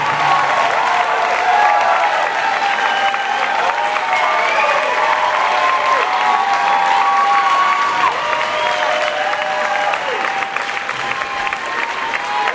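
A crowd applauds steadily after a guitarist's concert set, dense and loud throughout, with scattered whistles rising and falling above the clapping.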